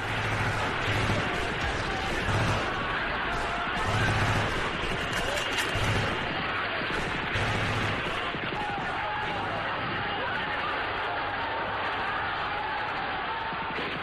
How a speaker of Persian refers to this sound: از شنیدن صدای مسلسل خیلی ها بی اختیار نقش زمین می شود.